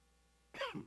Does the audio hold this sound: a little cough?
yes